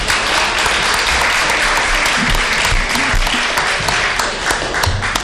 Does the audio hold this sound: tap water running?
no